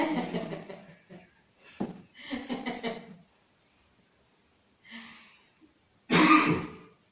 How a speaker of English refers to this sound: I was going to say I'm better too, and just to prove I'm going to blow my nose.